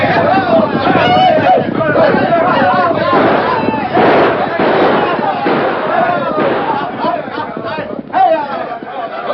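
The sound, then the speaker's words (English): A dense, continuous roar of husky working men on a spree, shouting and yelling over one another, loud, like a boisterous crowd with no single voice standing out, in a town of the American West. “The thunder of hoofs and the shouts and yells of husky working men on a spree made a roar”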